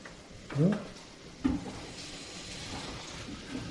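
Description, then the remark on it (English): A cream sherry sauce sizzles steadily in a pan as it is brought to a boil, while a utensil scrapes and stirs through it twice, with a brief murmured voice near the start. “And we're going to add some cream sherry. Mm. We're going to let this come to boil it.”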